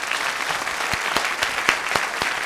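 An audience applauds steadily, a dense wash of clapping with several sharper, louder claps punctuating it at irregular intervals. No one speaks over it.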